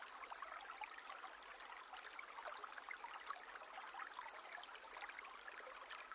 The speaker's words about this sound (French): L'eau coule sur les pierres, formant ici et là de petites cascades blanches qui emportent les feuilles et les branchages sur leur chemin.